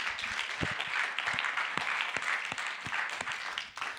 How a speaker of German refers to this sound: Und vielleicht können wir einfach Gott noch einen Applaus geben für das, was er getan hat.